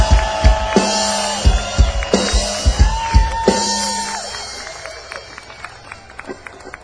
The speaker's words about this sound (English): How about a nice round of applause for a great singer as well,